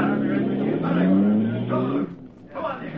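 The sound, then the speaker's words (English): A car engine revs and accelerates, its pitch climbing steadily for a couple of seconds before the sound drops away as the vehicle pulls off, followed by a brief rougher burst. “Use that gun and get the car out of here.”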